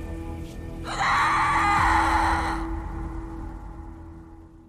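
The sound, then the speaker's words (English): A loud, piercing scream erupts after a moment of low background noise, holding shrill and sustained for nearly two seconds before fading into a dull hum. “The story she has for us tonight happened on Halloween night in 2004, when one house in Napa Valley was transformed into a real-life horror movie that began with a terrifying, blood-curdling scream.”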